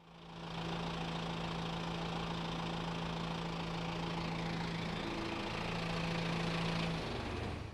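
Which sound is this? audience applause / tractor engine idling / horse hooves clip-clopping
tractor engine idling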